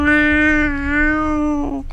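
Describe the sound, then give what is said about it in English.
A person mimics a cat with one long, drawn-out meow, held loud at a steady pitch for nearly two seconds before trailing off, with nothing else heard. “We're sitting at the table having a cup of tea and we could hear the cat. One other impression?”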